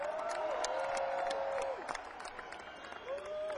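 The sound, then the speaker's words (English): A crowd applauds a band with dense, steady clapping, mixed with cheers and a sustained whistle that rises and holds, then returns near the end. The applause stays loud throughout. “Let's hear a big round of applause for my band.”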